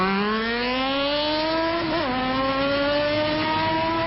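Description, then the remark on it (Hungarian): A sport motorcycle engine revs loudly and steadily during a stunt demonstration, its whine climbing in pitch. There is a brief dip around the middle like a gear change before it keeps pulling, with no voices. “Nem a város az, ahol a sportmotorral be kell mutatniuk a motorosoknak azt, hogy mire képesek.”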